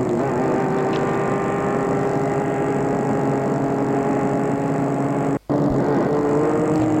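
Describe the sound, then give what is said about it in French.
A steady engine drone with a humming whine rolls on without a break, loud, like a car cruising fast at night; the sound cuts out for an instant near the end, then resumes. “Et la voiture file dans la nuit.”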